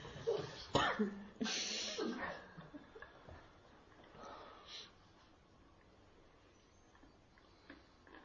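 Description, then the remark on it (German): A few harsh coughs burst out in the first couple of seconds as part of a guided release exercise, then fade into quieter breathy rustling and faint throat sounds for the rest of the stretch. “So habt ihr euch durch das Pendeln und das Husten von einer nicht gewünschten Sache befreit.”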